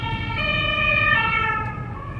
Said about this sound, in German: Oh, jetzt kommt die. Krankenwagen, dann machen wir mal Platz machen.